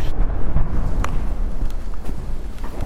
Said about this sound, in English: There, explosion. It sounded like it wasn't that far away